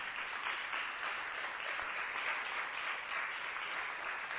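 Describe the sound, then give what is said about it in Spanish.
A crowd bursts into sustained applause for young people from across the country, a dense, steady wash of many hands clapping at even loudness for several seconds with no voices on top. “Fuerte el aplauso también a esas juventudes de todo el país.”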